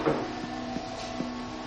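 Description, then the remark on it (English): A woman pulls a back door closed with a soft clunk, followed by a few light, evenly spaced knocks against a steady low background hum. Fairly quiet, no talking. “She opens the back door. She pulls it closed.”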